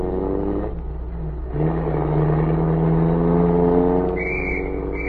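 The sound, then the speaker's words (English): A general's car engine hums, then surges and revs higher as the car pulls away, holding a strong, steady drone. A brief high-pitched police whistle cuts in near the end. “As the car pulled away, a police whistle sounded.”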